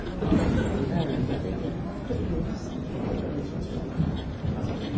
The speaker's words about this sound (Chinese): 打雷了